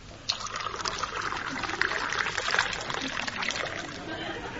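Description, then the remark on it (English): Gin and water pour steadily into a glass, a continuous splashing trickle that starts abruptly and runs on for several seconds at moderate loudness. “Well, more gin and not so much water with it this time.”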